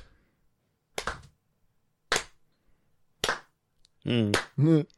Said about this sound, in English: I will sing you a song parody, but I need you to clap along. But our timing isn't going to be lined up. Hell yeah, just clap, buddy.